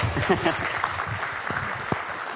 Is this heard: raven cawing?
no